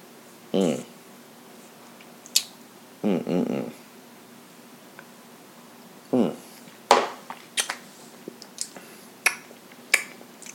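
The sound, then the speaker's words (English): Blue Run Golden Rye whiskey is poured into a glass in three short glugging bursts with pauses between, followed by several sharp little clicks and taps of glass. “I want to pour a little bit more, you know?”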